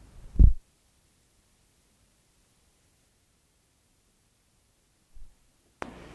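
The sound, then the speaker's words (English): A low mechanical thump, then near silence, a second soft clunk, and finally a burst of steady hiss as playback resumes, like a cassette being handled, flipped and restarted. “I gotta flip this tape over.”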